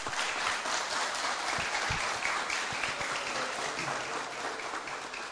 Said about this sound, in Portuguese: Desta forma, nesta noite, o Poder Legislativo Municipal de Itapiranga homenageia o Esporte Clube Cometa. Peço ao nosso Cometão uma forte salva de palmas.